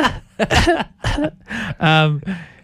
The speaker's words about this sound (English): A proper cough.